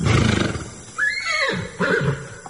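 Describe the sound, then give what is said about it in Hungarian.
A horse at an inn, ridden since dawn from Paris, neighs: a shrill, wavering whinny that falls in pitch, followed a moment later by a second, shorter whinny, over low background rumble. “Adjon zabot a lovamnak.”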